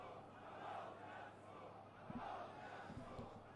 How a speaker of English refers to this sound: Chants now of death to Al Saud from the crowd.